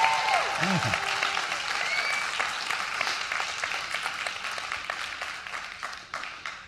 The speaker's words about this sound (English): The last time that I was here, the Cubs still hadn't won a World Series for 108 years, but that was the last time I was here. You could clap now, Cubs fans.